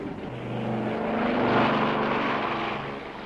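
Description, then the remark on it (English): A propeller aeroplane engine drones steadily as the aeroplane waits to take off, a broad rumbling roar that swells slightly in the middle and then holds, with no voices over it. “Lady Fample waved her cane at the waiting aeroplane.”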